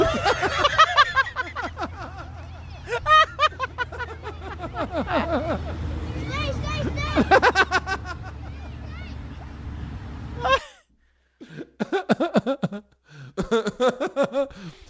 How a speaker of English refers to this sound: Yes, the Yes Network pipes in Levittown Little League crowd.